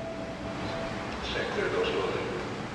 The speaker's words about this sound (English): The sound of Los Angeles is the Metro Gold Line train stopping at Mariachi Plaza Station. This is Mariachi Plaza Station.